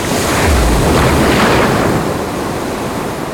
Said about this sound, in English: Suddenly, the sea came back towards the beach. It was strong and fast. It broke the houses and the trees near the beach.